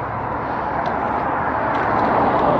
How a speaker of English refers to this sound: I have the beautiful sound of cars driving by.